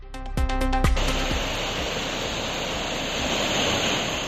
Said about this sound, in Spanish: Bueno, y así suena el río Henares a su paso por Guadalajara, estable tras crecidas que hubo en marzo, pero claro, vigilantes los ojos municipales y ciudadanos precisamente por esta decimocuarta borrasca, por estas lluvias.